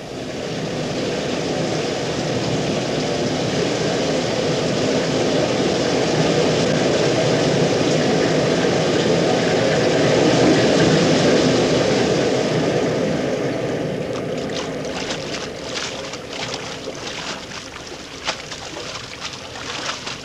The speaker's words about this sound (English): They're taking us under the waterfalls. They're taking us under the falls.